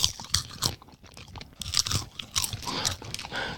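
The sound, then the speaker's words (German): Crunchy popcorn with a fruity note being chewed, crackling like popping candy: a run of irregular crackling bites with sharp, bright transients and moist mouth noises, steady and moderately loud with no talking. “Es knistert. Ach, wie dieses Zeug, was man sich in den Mund stecken kann. Ja, wie diese Knisterbrause oder...”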